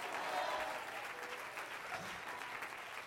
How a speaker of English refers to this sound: Somebody say praise the Lord. Now somebody clap your hands and say praise the Lord.